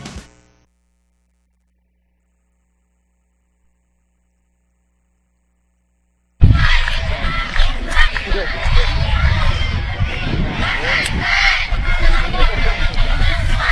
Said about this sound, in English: After the timeout, the fans are still cheering, find a way.